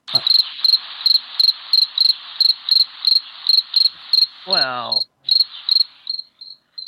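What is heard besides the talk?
crickets chirping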